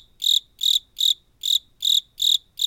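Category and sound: insect, crickets chirping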